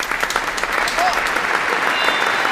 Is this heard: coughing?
no